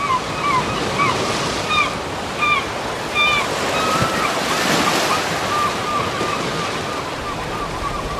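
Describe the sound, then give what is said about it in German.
Steady roar of North Sea surf breaking on a windy shore in the north in early spring, a constant rushing wash with gusts of wind, while small birds chirp intermittently above the noise. “Und sonst kommst du einfach nächste Woche wieder mit mir ans Meer.”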